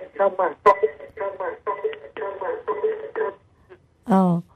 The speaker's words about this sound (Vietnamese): Hello. Ây da, xin thính giả có thể tắt cái radio đằng sau được không ạ?